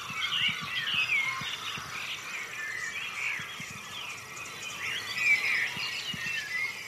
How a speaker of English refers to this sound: your hearing aid until you can prove to me that I can hear grasshopper warbler through this thing.